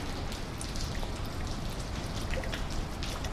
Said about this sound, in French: Cette pluie fréquente qui tombe sur la ville de Bruxelles et se décline sur mille formes, de la petite ondée au crachin